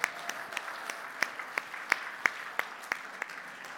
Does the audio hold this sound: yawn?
no